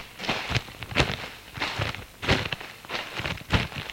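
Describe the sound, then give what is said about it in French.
Footsteps walk steadily at an even pace, about eight crunchy steps, each one a sharp scuff, as a woman walks from her car stopped at the roadside toward an object. No one speaks. “Puis se dirige vers la chose.”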